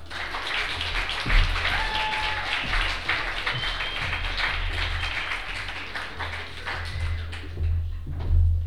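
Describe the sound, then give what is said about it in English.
An audience at a reading event applauds the readers steadily for several seconds, many hands clapping at once into a dense, even patter that holds at a moderate level without fading, with a faint low hum underneath. “Clap for them.”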